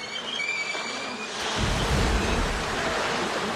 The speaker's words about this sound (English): At a river, a red all-terrain bus slowly eases over the inclined edge of the shoreline and falls into the water.